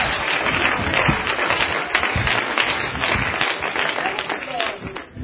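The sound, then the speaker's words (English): An audience clapping their hands to the Lord in a dense, sustained burst for several seconds, loud, with voices calling out beneath the applause. “Somebody clap your hands unto the Lord right now.”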